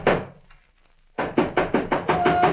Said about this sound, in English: I don't know how long I'd been asleep, but something woke me up. It was somebody pounding on the door.